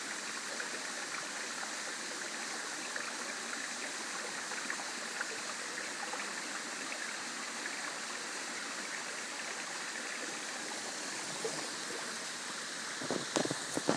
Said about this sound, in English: A little brook behind us. Water's going through a tunnel in the rock.